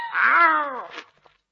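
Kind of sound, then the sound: animal, kittens meowing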